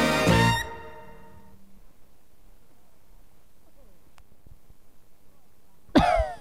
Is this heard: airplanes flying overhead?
no